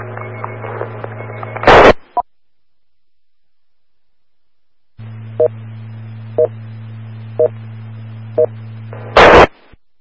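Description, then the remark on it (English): Radio net alert tones opening the Cuyahoga County Skywarn net for a National Weather Service severe thunderstorm warning: a steady droning tone, then a gap, then the tone returns with four evenly spaced short beeps, each segment cut off by a sharp burst of static. “KC8M set, Jay, with Tones.”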